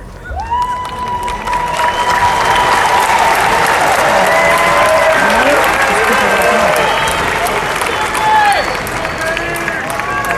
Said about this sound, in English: So, what's the big deal about our commencement speaker? Why are they booing him? Is it because he's Jewish? Yes.